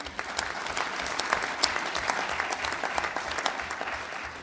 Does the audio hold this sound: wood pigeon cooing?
no